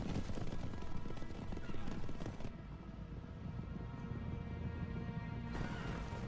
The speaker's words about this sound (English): So many horses. You know, I'll give it that. At least they're using real horses.